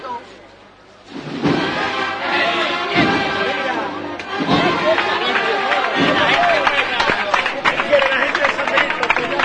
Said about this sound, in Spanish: Bueno, los primeros que aplauden son los costaleros que ahora van a entrar en el relevo.